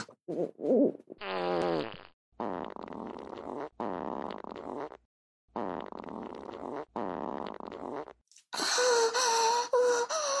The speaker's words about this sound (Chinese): 好爽啊，我放屁放的真的好舒服啊，这他妈才叫放屁嘛。